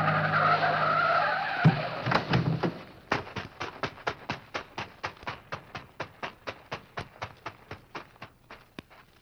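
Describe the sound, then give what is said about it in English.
A car with a bomb hidden in it is driven away to a vacant lot. It roars and skids with a screeching tire squeal for a few seconds, then gives way to a steady run of sharp, evenly spaced sputtering pops that gradually soften. “Why, that was a wonderful thing you did, driving the car away so those innocent people wouldn't be hurt.”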